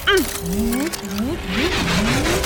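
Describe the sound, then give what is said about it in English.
Two racing cars mechanically interlocking to form a double car: a loud run of rising, whirring servo-like sweeps repeating over a steady engine rumble and hiss, building toward a denser grinding finish. “It looks like their cars are interlocking to form some sort of double car!”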